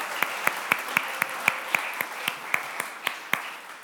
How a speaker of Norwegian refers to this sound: Ja, vi gir deg en applaus.